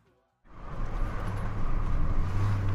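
After a brief moment of silence, a steady rumble of a car driving comes in abruptly and holds, with engine hum and road noise and no voices.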